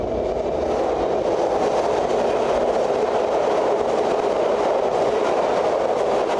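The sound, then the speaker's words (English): A metro train roars past at close range inside a tunnel, passing people standing on a concrete ledge with their backs against the tunnel wall, a loud, steady wall of rumbling, rushing noise with a faint rhythmic clatter of wheels, no voices heard. “There's also a faint rumble that seems to come and go at first, then suddenly roars right at you.”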